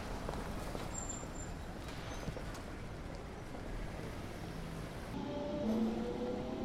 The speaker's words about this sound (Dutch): De tram rijdt weg. Misschien zal die hier in de toekomst niet meer stoppen om boekenliefhebbers af te troppen, maar gewoon winkelend publiek.